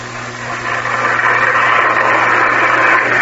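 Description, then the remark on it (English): A toy electric train set with automatic signals runs with a steady, continuous motor whir over a low buzzing hum, swelling slightly in the first second and then holding level, with no voices. “Well, let's see your train. It's all set up over here.”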